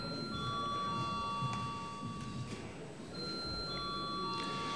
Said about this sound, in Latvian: Lūdzu zvanu.